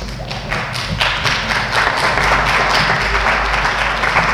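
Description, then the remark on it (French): A crowd applauds steadily and fairly loudly after a speech by the United Kingdom delegation, a dense patter of many hands clapping at once that holds its level for the whole few seconds, with no voices on top. “Délégation du Royaume-Uni, je peux applaudir.”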